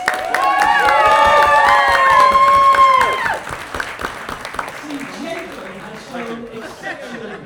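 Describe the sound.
A loud round of applause with high whooping cheers for about three seconds, then the clapping quickly fades into scattered claps and murmuring voices.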